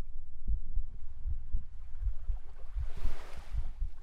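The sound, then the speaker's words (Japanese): Muffled heartbeat thumping steadily in low paired pulses, about eight beats over a few seconds, with a soft rushing swell in the background midway through. No voices. “ドキドキするのに安心するよ。”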